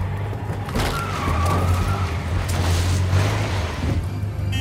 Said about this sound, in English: The truck can't take much more, man.